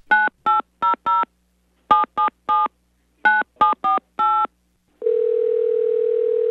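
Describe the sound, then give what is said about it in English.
A rapid series of touch-tone beeps, about thirteen in three quick bursts, dialing a comic telephone service for Tiger Woods adoration, then a steady, unbroken telephone dial tone that hums on until the end. No one speaks. “Luckily, commentator Frank DeFord has come up with a telephone service to handle Tiger adoration on a daily basis.”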